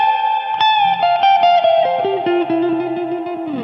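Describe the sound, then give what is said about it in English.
Electric guitar played through a spring reverb, a steady ringing high note sustained while a line of plucked notes steps downward, each washing into a shimmering tail. No one speaks. “And then this, it's also a spring reverb.”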